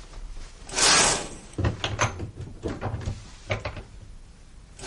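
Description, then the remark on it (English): A window slides shut with a broad scraping whoosh, then several sharp knocks and clunks follow in an uneven run as it is fastened to seal a locked room, ending with a final bump. “Now, the window's secure.”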